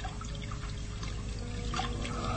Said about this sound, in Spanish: Con agua hervida, limpia cuidadosamente las heridas y puede mirarlas con mayor claridad.